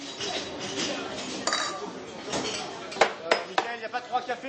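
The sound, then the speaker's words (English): Busy café-restaurant ambience in Paris with a steady murmur of customers' voices and sharp clinks of dishes and cutlery, several bright clatters near the end. “Customers of the A La Fontaine cafe restaurant here in Paris are getting used to the”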